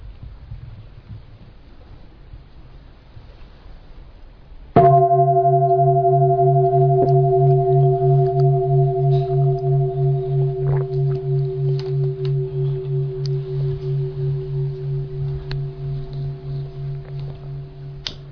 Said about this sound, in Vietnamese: Và tôi bỗng nhận ra dường như là mình mới vừa nghe tiếng chuông đó, phải không?